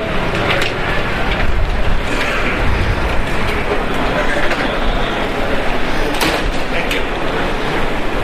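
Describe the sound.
A second set of automatic sliding doors glides open with a whooshing rumble amid steady, busy background noise, while people talk.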